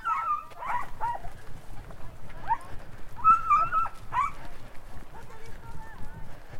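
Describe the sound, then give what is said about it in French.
Dogs bark and yelp in scattered, excited bursts, already far off in mountain thickets, with high-pitched cries cutting through a steady background of rustling and movement. “je parvenais à retrouver à l'oreille les furieux en furie, déjà loin dans les taillis de montagne, les cris et les aboiements m'indiquaient le chemin à suivre.”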